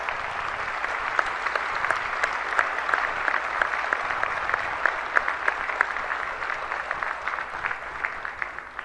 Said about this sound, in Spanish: hemos logrado este paso histórico, con lo cual creo que podemos darle un aplauso a todos ellos que han trabajado tan bien.